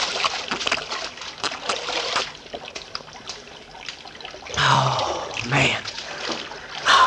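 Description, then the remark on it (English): Splashing and trickling water, with irregular small splatters followed by a couple of louder sloshing surges near the end, as people drop face-down to drink spring water from a creek. “Oh, man, does that water look good. Hey, how about us falling on our faces and having a drink, huh?”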